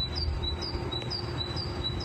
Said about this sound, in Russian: Выйдите. Там птицы с ума сошли просто. Я не знаю, кто это. Есть на такие среди вас, среди нас, среди всех. Есть знающие люди. Чьи птички голосок сейчас раздается на улице? Вот это.